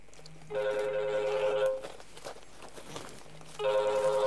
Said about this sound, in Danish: Vi skal lige have slukket en telefon. Det går lige et øjeblik. Det var skrækkeligt. Undskyld.